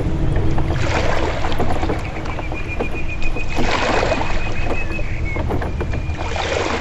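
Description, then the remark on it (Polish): A boat moves steadily along a river in Kalisz, Poland, passing under the St. Wojciech road bridge. Its engine drones low beneath a continuous wash of water and wind, with a faint thin whine rising above the rumble. “Teraz przepływamy pod mostem świętego Wojciecha, stanowiącym element trasy bursztynowej.”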